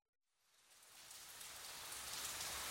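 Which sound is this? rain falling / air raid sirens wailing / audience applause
rain falling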